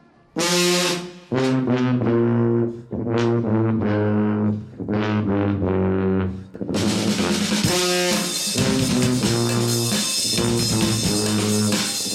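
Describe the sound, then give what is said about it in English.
The Pink Puffers, an alternative street marching brass band at the 4th annual Honk Festival, play loudly, opening with punchy, rhythmic repeated horn blasts before the whole ensemble swells into a fuller, continuous brassy wall of sound. “That's the Pink Puffers. They're just one of the 28 alternative marching bands represented here.”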